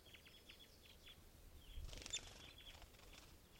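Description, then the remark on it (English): An adult male western tanager flutters and struggles briefly in a mist net, a short burst of soft rustling and flapping amid a quiet series of faint, rapid chirps. No one speaks. “Western tanager just flew into the net.”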